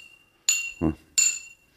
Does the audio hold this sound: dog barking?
no